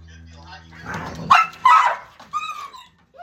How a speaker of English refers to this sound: I got a couple of obnoxious dogs trying to cause some grief, but other than that, everything's good.